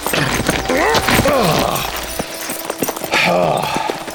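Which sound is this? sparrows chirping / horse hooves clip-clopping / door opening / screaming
horse hooves clip-clopping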